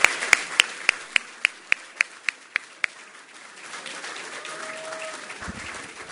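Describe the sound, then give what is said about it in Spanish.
An audience applauds at the close of a ceremony, opening with about a dozen crisp claps in a steady, even rhythm that then dissolve into a continuous wash of scattered clapping. “Y con este aplauso le deseamos el mayor de los éxitos a todos y a todas.”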